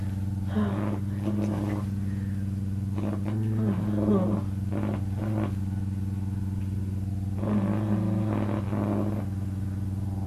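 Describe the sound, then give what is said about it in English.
A noisy suction sex toy hums steadily and loudly throughout, a low motor drone with a buzzing tone like a vacuum cleaner, while short bursts of voice rise over it now and then. “Oh, I've got my other toy. You probably can hear it. It's very noisy.”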